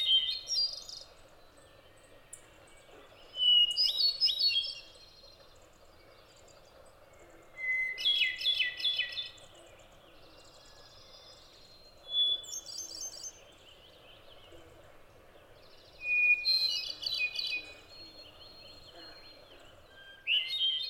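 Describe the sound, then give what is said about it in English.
A hermit thrush sings clear, fluting phrases, each a brief ethereal burst followed by a pause, repeating about every four seconds against a quiet woodland background. “It's not hard to see why poets and naturalists are united in their praise of the hermit thrush's melody.”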